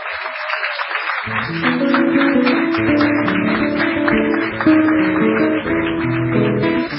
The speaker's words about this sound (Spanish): Vamos a pedir primero un aplauso